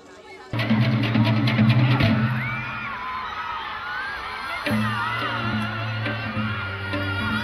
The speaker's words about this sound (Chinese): 容貌端庄的作曲家初音混演员李润美夫妇摆了多种姿势。 由于太随和，以至于粉丝们满怀妒忌的大声尖叫。